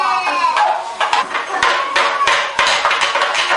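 A toy hammer bangs repeatedly in sharp, irregular, loud knocks over a continuous backdrop of high, whiny vocal sounds and busy room noise.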